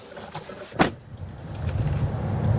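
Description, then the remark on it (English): A self-driving truck's engine rumbles low and steady, growing slightly louder as it rolls along and pulls in to park, with a brief sharp mechanical whir near the start and no voices. “This is a self-driving truck.”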